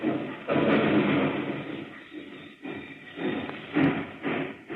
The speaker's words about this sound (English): Hear that? It's a freight train pulling out of the departure yard of a terminal headed for points beyond.